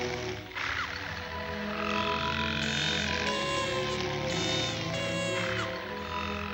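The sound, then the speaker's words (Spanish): A dense nighttime chorus of frogs croaking steadily outdoors while crickets chirp in high, continuous trills, layered and fairly loud throughout with no voices. “Fuera, las ranas y los grillos cantan.”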